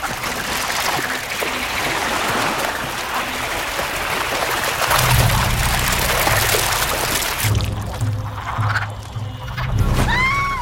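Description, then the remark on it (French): A dense chorus of frogs croaking continuously, with overlapping calls forming a loud, steady outdoor din, a brief rising call near the end. “Et revoilà les grenouilles.”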